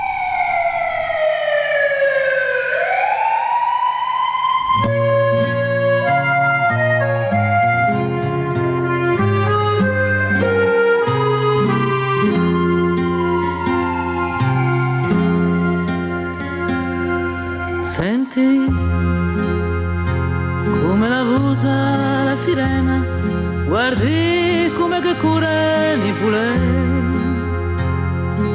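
A rising and falling siren wail opens alone, then a full band comes in and a song with a wavering, vibrato-laden singing voice carries on steadily, loud and close, until the end.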